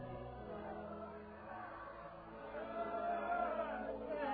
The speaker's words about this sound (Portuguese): Os ruídos da multidão denunciam que a hora derradeira de André está próxima.